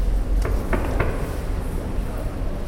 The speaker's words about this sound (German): Fremdgesteuert durchqueren wir die Bahnhofshalle, werden schließlich aufgefordert, neben dem Bankautomaten an eine schmale Holztür zu klopfen.